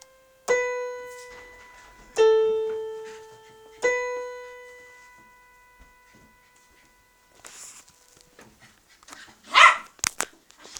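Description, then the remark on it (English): A very hyperactive dog that recently moved in barks three loud, ringing times at a steady pace, then quieter rustling and a few sharp noises follow. No one speaks. “This is a really, really hyper dog that moved in a little while ago.”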